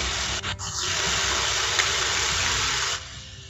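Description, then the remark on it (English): A steady, grinding electric buzz from an electric toothbrush with a low hum and hissy upper edge runs almost without a break, dipping briefly near the start, then drops away sharply just before the end. “Put on what makes me want to sleep more than the grinding sound of an electric toothbrush?”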